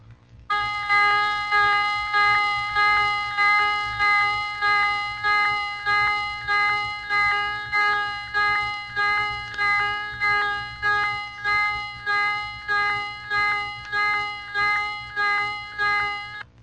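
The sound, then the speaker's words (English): A navy ship's general alarm sounded for General Quarters, the call for all hands to man battle stations, following the bugle: a loud, harsh, buzzing electronic tone pulsing in a steady rapid rhythm, roughly twenty repeated bongs over about sixteen seconds, with no voices. “After the bugle comes this optional sound, the general alarm.”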